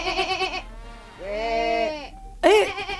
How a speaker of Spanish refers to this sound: Hay personas. Hay personas junto con otros animales. Increíble. ¿Qué es? Bueno, personas y ¿qué más? Y ovejas. Y oveja.